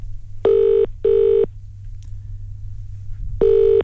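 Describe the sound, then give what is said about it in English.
The ringback tone of an outgoing phone call sounds in a double-pulse pattern, two short buzzing rings, a long pause, then another ring starting, steady and clear over a low background hum, with no one answering. “Oh, it's ringing out.”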